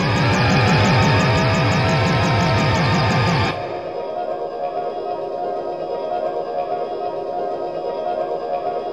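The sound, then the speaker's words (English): Industrial music from Beijing by a Chinese duo: a loud, harsh wall of distorted noise with pulsing, sawtooth-like sweeps, which cuts off abruptly after about three and a half seconds into a lower, murky rumbling drone. No voices. “It just keeps screaming at you louder and louder until it decides to abate.”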